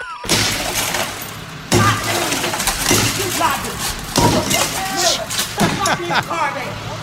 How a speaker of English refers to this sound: Right, like, how much glass is on this thing? I mean, that's amazing how much is breaking.